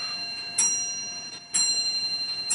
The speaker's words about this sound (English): Here comes the clock. There you go.